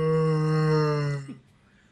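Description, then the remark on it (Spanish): A voice imitates Chewbacca's growl while yawning: a low, drawn-out growling groan from the throat, one sustained buzzy tone for over a second that slides slightly and then cuts off into quiet. “Entonces hacía el sonido mientras, pues, como que no gruñía Chewbacca. Entonces, lo único que agregué fue agregarle el gruñido.”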